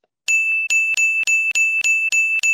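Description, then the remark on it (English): A bell rings loudly, struck in a rapid, steady series of about eight quick hits over two seconds, its bright metallic tone sustaining between strikes. No one speaks. “Tony, ring the bell. Ring the bell.”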